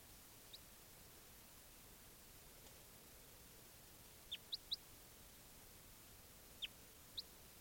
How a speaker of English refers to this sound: There's birds there.